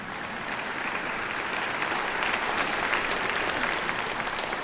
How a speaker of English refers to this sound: Yeah, go ahead and clap.